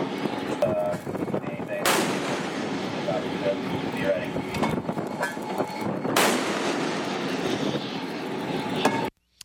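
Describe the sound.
A ship's deck gun fires two heavy, booming disabling shots at the motor vessel Tosca about four seconds apart, each a sharp blast over a steady engine-like rumble with faint muffled voices in the background.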